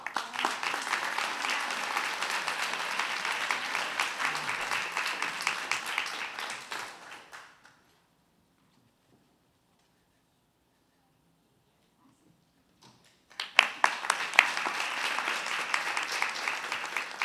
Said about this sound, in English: Now let's give everyone a round of applause. And on behalf of the commission, we thank you all for your service. Congratulations.